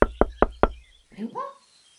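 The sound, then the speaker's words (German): Four firm, evenly spaced knocks on a door in quick succession, fairly loud, followed by a short voice calling out. “Wir sind da. Ich klopf mal.”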